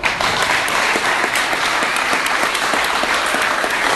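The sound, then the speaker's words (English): A crowd claps steadily for about four seconds, a dense, loud wash of many hands with crisp, bright texture and no voices standing out, applauding everybody at Morty's. “So, give a major round of applause to everybody at Morty's.”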